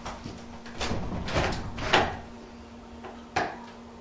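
A door being opened, heard as a series of close wooden clunks and rattles over about four seconds, with a sharper knock near the end and a low steady hum underneath.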